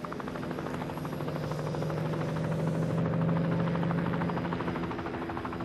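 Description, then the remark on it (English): A helicopter drones steadily overhead, its rotor blades beating in a fast, rhythmic chop over a low engine hum, staying loud throughout with no voices. “British troops were involved in fighting the Malayan War, a war in which helicopters began to come into their own.”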